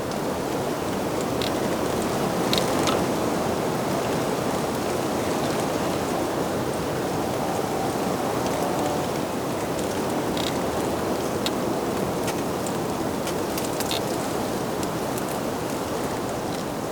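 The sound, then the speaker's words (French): Steady, loud rushing wind sweeps through hedges in the Pyrenean foothills for the whole stretch, a dense continuous roar with faint crisp rustles of leaves flickering on top. No voices are present. “La clameur du vent contre les haies.”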